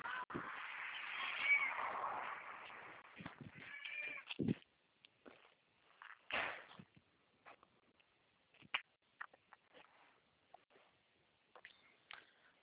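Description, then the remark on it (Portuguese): A cat lets out a long, drawn-out meow, then a shorter second meow, followed by scattered soft thumps and clicks. “vem pra cá, deixa o gato, vem.”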